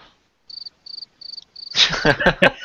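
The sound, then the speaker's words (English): A cricket chirps four times, each a quick high-pitched trill, evenly spaced in otherwise quiet surroundings, before a louder, rougher burst of sound abruptly takes over. “You know, I was looking up, and I was like, "Oh, is a cricket perfect?"”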